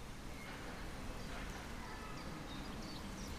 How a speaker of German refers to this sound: Hört man die Vögelchen? Warte mal kurz.